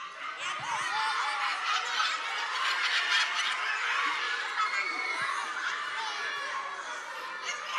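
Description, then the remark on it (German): A troop of monkeys shrieks and chatters in the trees overhead, many high-pitched calls overlapping in a dense, continuous racket that stays loud and busy from start to finish. “Die Affen kreischen auf den Bäumen.”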